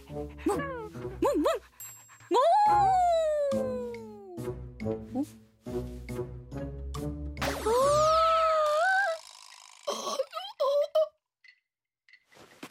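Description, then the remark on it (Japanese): A dog outdoors whimpers and yips, mixing high sliding whines with short sharp yelps in an irregular, restless series that stops abruptly near the end. “ほら、犬もいるし。”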